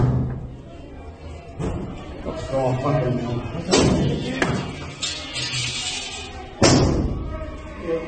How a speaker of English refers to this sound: Mate, they're taking 20-metre jumps and jumping in the glass trying to smash it.